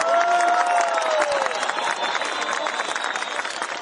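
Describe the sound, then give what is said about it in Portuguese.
A large audience applauds loudly and steadily, a dense wash of clapping mixed with crowd cheers and whistles, sustained without pause, at the opening of a gathering of people from many peoples and countries, applauding all the peoples of the Americas. “Así que un aplauso para todos los pueblos de América.”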